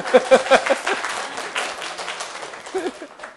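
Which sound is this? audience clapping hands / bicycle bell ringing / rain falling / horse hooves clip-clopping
audience clapping hands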